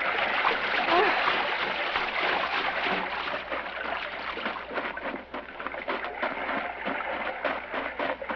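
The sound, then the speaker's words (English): Steady watery splashing and sloshing, fairly loud, with irregular bursts as two people wade out of a gently rolling sea; faint murmured voices mix in underneath. “Only the two of them in the gently rolling sea.”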